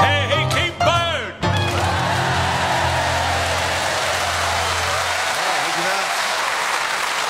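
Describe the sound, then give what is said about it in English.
A moment of singing over piano, played by Colin Sell, gives way to an audience in Norwich clapping along slightly out of time, a dense, loud, steady wash of claps that carries on to the end. “Singing and Colin Sell on the piano and the people of Norwich clapping slightly out of time.”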